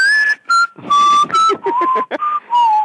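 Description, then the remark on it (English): Someone whistles a bright, cheerful melody, a string of short and held notes rising and falling in quick phrases, with a little breathy air under the tone. “So, did that whistle.”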